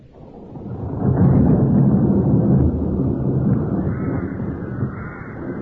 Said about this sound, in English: What brings you out in the storm? I think I made it back before the rain.